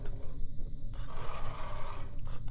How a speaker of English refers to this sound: And then there's a sort of scratching, a little scratching and a scratching from the far side of that door.